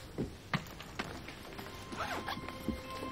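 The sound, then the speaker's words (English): A suitcase zipper is pulled shut in a few short, scratchy bursts, mixed with soft thumps and fabric rustling, with no voices. “She zips up suitcase as he holds family photo of the four of them together.”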